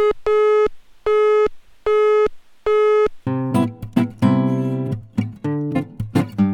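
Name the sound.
telephone busy signal tone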